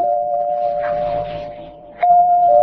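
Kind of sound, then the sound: household object, doorbell ringing repeatedly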